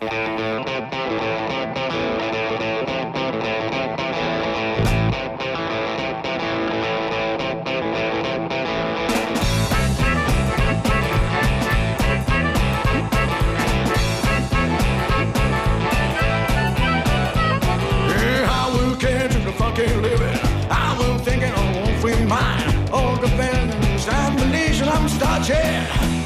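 A rock song driven by heavily distorted electric guitar, opening with a thinner riff before the full band crashes in partway through, loud, dense and steady until the end.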